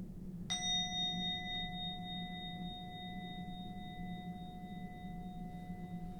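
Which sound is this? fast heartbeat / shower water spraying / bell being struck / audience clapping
bell being struck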